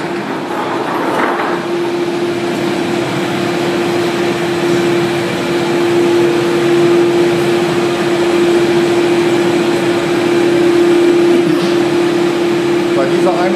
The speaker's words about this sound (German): Wir gehen nun weiter quasi in die Einäscherungshalle wieder rein und das wird richtig laut.